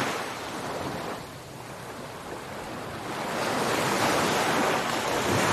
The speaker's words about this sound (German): Deine Babyschildkröte wird von einer schäumenden Welle erfasst und hinaus aufs Meer getragen.